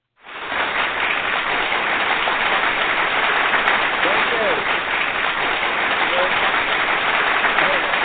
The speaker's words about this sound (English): Thank you so much. There's the applause. I got an audience in the house now.